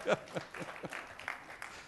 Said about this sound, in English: How many women in the audience today? Can I get you to put your hand up? This lady deserves a round of applause. She really does.